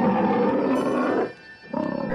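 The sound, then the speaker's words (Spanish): A loud, deep lion roar fills the moment, rumbling for over a second, dipping briefly, then surging again in a second growling burst. No voices are heard. “De pronto se escuchó un rugido aterrador.”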